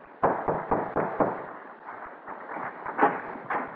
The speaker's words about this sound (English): Well, let us knock.